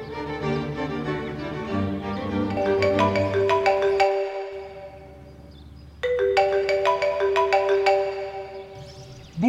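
A telephone rings in two bright, warbling bursts separated by a short pause, fairly loud, over a low sustained background tone, with no one speaking.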